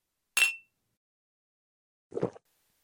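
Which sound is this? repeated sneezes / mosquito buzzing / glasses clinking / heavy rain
glasses clinking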